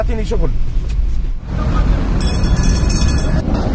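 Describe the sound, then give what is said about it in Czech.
Busy ambience at the tram station called Republika in central Tunis, Tunisia, as passengers hurry to catch their trams: a steady, loud rumble of vehicles and rail traffic with indistinct crowd voices, and a bright metallic rattling or squeal rising near the end. “Na tramvajovém nádraží zvaném Republika v centru Tunisu teď všichni dobíhají své spoje, aby se stihli vrátit domů před začátkem zákazu vycházení.”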